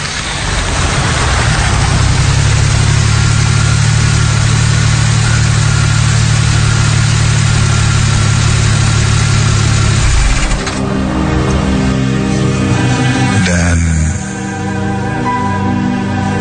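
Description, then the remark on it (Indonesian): A car engine idles with a steady low hum for about ten seconds, then shifts as the car is parked in a front garage, with changing mechanical tones and no talking. “aku pun sampai di tempat tujuan kami. Aku parkirkan mobil di garasi depan.”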